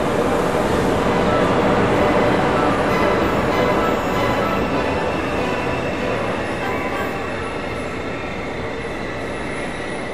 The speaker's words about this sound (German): Und wir warteten alle, dann kam Zug reingefahren.